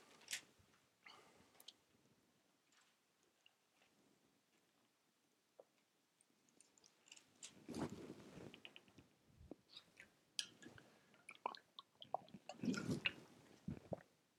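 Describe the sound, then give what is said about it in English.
Plastic water bottle crinkling and crackling in irregular bursts as someone drinks from it, growing louder and busier in the second half, with squishy handling sounds and no speech. “Sorry, my wife hates that water bottle because of the noise.”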